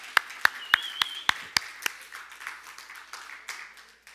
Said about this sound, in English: Good job. Give him a round of applause again.